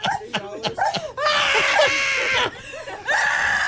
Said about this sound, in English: Everyone's excited. It goes on. Wait, you're about halfway through. She's on the floor now, screaming.